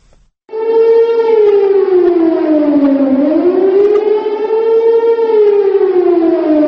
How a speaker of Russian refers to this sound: Каждого 24 марта, ровно полдень, в городах Сербии раздается сигнал отбоя воздушной тревоги.